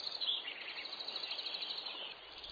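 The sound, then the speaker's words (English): A dense spring dawn chorus of male songbirds singing as the first rays of sunlight fill the trees, many overlapping chirps and trills blending into a continuous, fairly soft wash of high-pitched song with no talking. “As early morning light extinguishes the stars, as the first rays of sunlight fill the trees, male birds begin to pour out their songs.”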